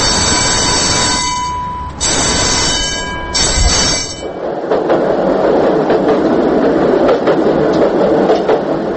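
tram rolling on rails

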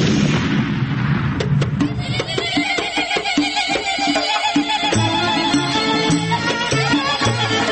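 explosion sound effect

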